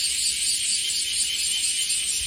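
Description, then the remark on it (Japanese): A dense chorus of cicadas at about 5:40 in the morning, in very humid air, fills the air with a loud, steady, high-pitched buzzing that never lets up, with no voices over it. “セミがめっちゃ鳴いてますよ。セミが、車が通りますしね。”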